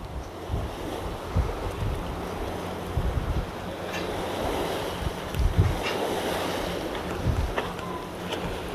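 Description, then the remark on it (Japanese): Waves slosh and surge steadily beneath strong gusting wind that buffets the microphone, with low rumbling and thumping as water pushes against a swaying pier; no one speaks. “桟橋が揺れる、風が強い、波の音。”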